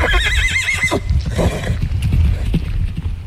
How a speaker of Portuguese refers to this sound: Era cavalo.